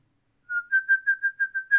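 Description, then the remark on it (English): A person practicing a whistle whistles a quick series of about seven short, steady notes at a similar pitch, clear, with no talking. “I got to practice my whistle.”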